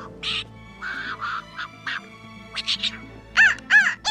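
A bird, Tuki, flies in and perches on a man's arm at a balcony, squawking repeatedly in a rapid series of harsh, raspy calls, ending with a few louder, more tonal shrieks, fairly loud, with no talking.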